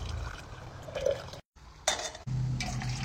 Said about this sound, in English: I have some clean drinking water. Take it off the heat. Pour the tea in.